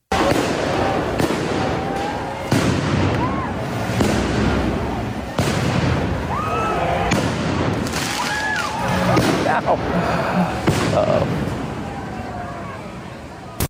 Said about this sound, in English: Mythical fireworks.